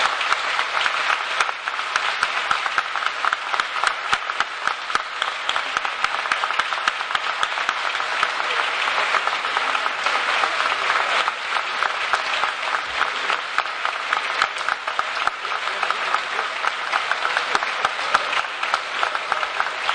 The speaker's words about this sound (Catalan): Un fort aplaudiment per ell.